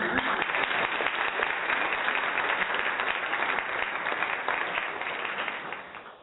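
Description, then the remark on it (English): A crowd applauds steadily for about six seconds, dense rapid clapping at an even loudness that tapers off slightly at the very end. No one speaks. “So if your team won, definitely give your team a round of applause.”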